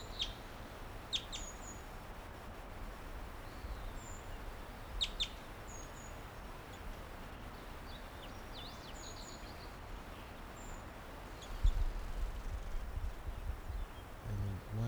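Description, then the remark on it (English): A wild bird, number 425, chitters from a low tree branch, giving short, high chittering calls and brief song phrases in scattered bursts, and flies nearby, over a steady, low outdoor hiss, with a rustle and thump toward the end. “Gave some songs and flew nearby.”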